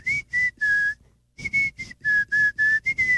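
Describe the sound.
Someone whistles a bouncy pop melody, a run of short, clear tonal notes in a lively rhythm with a brief pause partway through, no talking.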